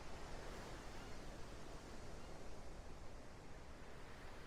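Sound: ocean waves washing ashore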